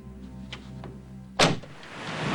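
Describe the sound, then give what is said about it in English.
A single solid thunk of the boot door of a flying car-plane opening, sharp, followed by a rushing airy hiss as it swings wide in the wind high above a river and paddy fields, with faint mechanical clicks and a low hum before it. “Jemmy is the car plane's boot door.”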